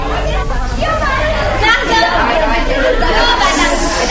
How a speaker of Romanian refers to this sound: Mergând așa, sprijinit într-un toiac de corn care îl mai ajuta să-l poarte pe șarpele cel nerecunoscător, auzi larmă de copii ce se jucau pe un maidan.